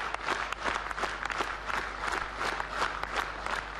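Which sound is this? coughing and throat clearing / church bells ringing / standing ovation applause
standing ovation applause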